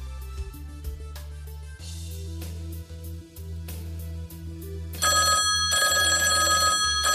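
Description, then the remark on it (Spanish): A telephone bell rings loudly, first in rapid repeated strikes over a low humming backdrop, then swelling into a bright, continuous jangling ring for the last couple of seconds. “En tu día a día hay teléfonos antiguos. En tu día a día hay teléfonos modernos.”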